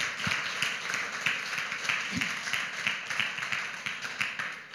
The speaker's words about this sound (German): Auch wenn sie jetzt nicht hier sind, ich finde, ihr dürft ihnen einen riesen Applaus geben.